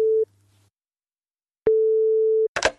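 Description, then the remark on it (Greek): Telephone ringing tone heard through the line on a call to the State Theatre of Northern Greece: a short steady beep, a pause, then a longer steady tone, followed by a brief burst of noise as the call connects. “Ο Μαστρομέρας παίρνει τηλέφωνο στο Κρατικό Θέατρο Βορείου Ελλάδος.”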